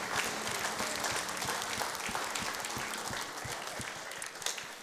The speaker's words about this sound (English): Give him another hand clap today, please.